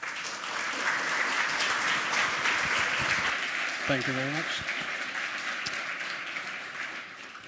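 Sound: round of applause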